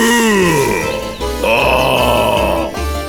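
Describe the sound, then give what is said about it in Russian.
A voice imitates a bear growling as it goes to a little hut: a loud, rough, drawn-out roar that slides downward in pitch, followed by a second gravelly snarl with a harsh rasping edge, no words spoken. “Пошел медведь к избушке и зарычал.”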